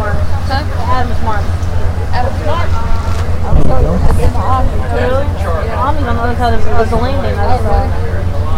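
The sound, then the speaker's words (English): A boat engine running fast drones steadily and loudly throughout, a constant low rumble with wind buffeting the microphone, while a person talks over it. “You can even hear the engine running again, running pretty fast.”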